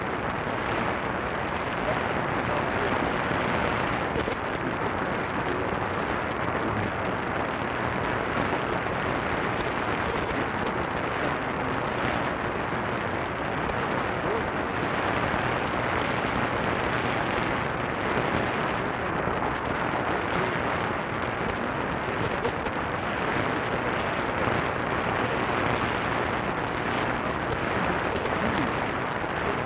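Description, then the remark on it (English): Steady, dense radio static received on a whip antenna hisses and crackles for the whole stretch, with a weak signal barely poking through the noise at an even, unchanging loudness. “You can sort of hear that there's a signal, but there's not too much to it.”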